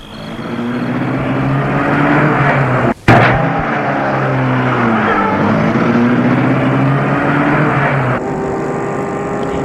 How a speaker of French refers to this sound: Il entre dans la voiture pour la mettre en route.